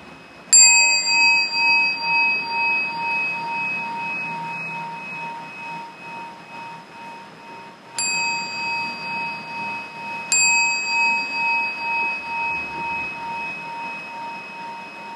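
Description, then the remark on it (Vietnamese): A Buddhist temple bell is struck three times at a pagoda in Bà Rịa–Vũng Tàu, Vietnam, on the morning of 4 June 2017, opening the first session of a meditation retreat. Each stroke rings out with a long, shimmering, wavering hum; the first tone lingers alone before two more strikes follow closer together. “Chúng ta lắng nghe ba tiếng chuông.”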